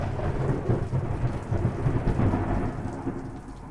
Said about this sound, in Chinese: 啊，小师弟，看来是我错怪你了。原来是怕打雷吗？看不出来嘛，原来这么靠谱的小师弟，居然会因为害怕打雷而不敢回家。